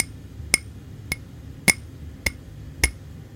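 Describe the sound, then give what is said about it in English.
Five light taps on a glass at a steady, even pace, each a crisp clink with a brief bright ring, done on a microphone as a sound meant to help people get to sleep. Quiet, with no talking. “Or me doing this on a glass.”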